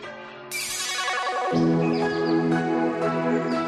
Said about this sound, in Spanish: De momento, anunciarles que ya están listas las campanas para que ese día 1, esa fecha especial, repiquen con fuerza.